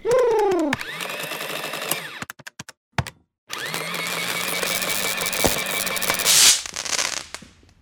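A pigeon lets out a short coo at the start, then sharp clicks and taps break in, followed by a steady burst of rustling, flapping-like noise. No one speaks.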